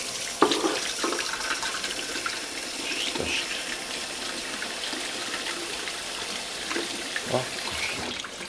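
A kitchen tap runs steadily into a sink while waiting for the hot water to come through, a continuous hissing splash with occasional clinks and knocks of dishes, moderately loud throughout.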